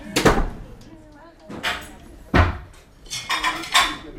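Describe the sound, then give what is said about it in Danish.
Dishes and cutlery clatter as an evening staff member sets food on the table in the large common room of Café Clara at 19:15. Several sharp bursts of bright metallic clinks and a couple of heavier knocks come at irregular intervals over a few seconds. “Og i det store fællesrum, der er stedets hjerte, sætter en af aftenvagterne mad på bordet, imens kvinderne en efter en kommer ind ad døren.”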